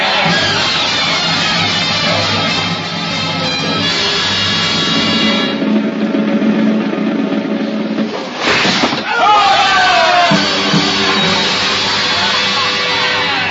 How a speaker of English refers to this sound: Robed executioners work swiftly. As a head drops in the basket, it is held aloft and the mob screams out the count.